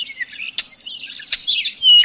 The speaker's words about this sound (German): Und zum Abschluss haben wir noch einen Vogel, den Sie bestimmt kennen. Den Star.